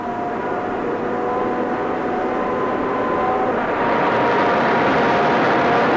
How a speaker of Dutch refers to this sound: Vanuit de grote meethal worden de elektromotoren die gevoed worden door een eigen turbo-elektrische centrale ingeschakeld. Deze motoren brengen een schroefaggregaat in beweging dat de wind opwekt.